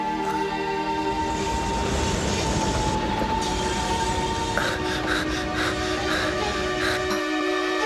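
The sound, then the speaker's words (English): A train rumbles steadily along the rails with a dense low roar and sustained metallic tones, joined by sharp squealing and clattering bursts toward the end. No one speaks. “You experience the fear of being on a train.”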